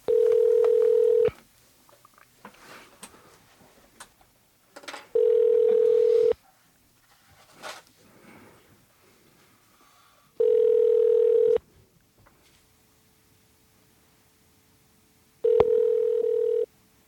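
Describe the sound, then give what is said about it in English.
A telephone line tone sounds in four steady, fairly loud bursts about a second long, spaced several seconds apart, as a call is placed to NPR to be patched through to a phone in one of its voice booths, with faint rustling and clicks in between. “If it's possible, just patch us through to the phone in the voice booth.”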